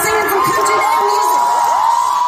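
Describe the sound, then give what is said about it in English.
A crowd at a country music performance cheers loudly and steadily for girls sitting in the audience, a dense wash of shouting voices with high-pitched whoops and rising yells sliding over it throughout. “Now let's make everybody cheer for them while they're sitting there.”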